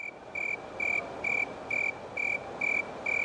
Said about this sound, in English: That's called the snowy tree cricket. It's also called the thermometer tree cricket because you can actually count the number of chirps in 13 seconds, add 40, and you can get the temperature in Fahrenheit that way.